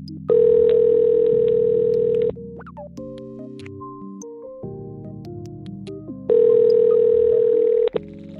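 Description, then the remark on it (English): A telephone ringback tone on an outgoing phone call sounds twice, each steady electronic buzz lasting about two seconds with a long pause between, while soft background music plays underneath. “So long as they pick up the phone.”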